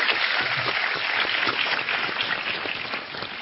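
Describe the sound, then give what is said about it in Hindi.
A crowd claps steadily for several seconds, a dense, even patter of many hands at a constant loud level with no voices standing out. “उनके लिए जोरदार तालियां।”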